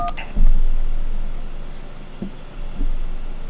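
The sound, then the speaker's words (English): A touch-tone phone keypad beeps out dual-tone presses while spelling a name into an automated phone directory, one clear tone at the start followed by a couple of quieter presses and soft clicks over a low hum of line noise. “Spell the last name first using the keys on your touch-tone phone.”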